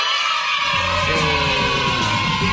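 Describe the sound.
A loud, sustained shout held for a couple of seconds, a voice recreating the signature yell heard when the TV show Cachureo began, strained and rising, with a rough, crowd-like edge and no other talk.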